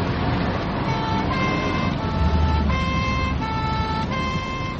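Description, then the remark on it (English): A loud police car siren, switched on while chasing a speeding car, wails in a steady two-tone pattern, alternating high and low pitches roughly every half second, over a constant rumble of engine and road noise. “Right, put the siren on.”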